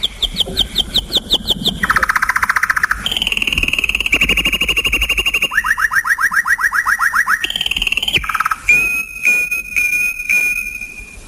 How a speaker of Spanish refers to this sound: Bueno, como pueden ver, pues ahí tenemos a un pajarito con un canto realmente exquisito. Es una grabación original de un pájaro que se incluyó en la partitura, en el tercer movimiento de estos Pinos de Roma, Los Pinos del Gianicolo,